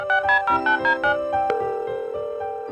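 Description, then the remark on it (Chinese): A phone line plays its ringback as a hotline call is dialed: a loud run of bright electronic tone pulses in a quick rhythm, settling into one steady sustained tone. No one speaks. “那我们呢又带着这样一颗感恩的心啊，现在呢再一次拨通电话”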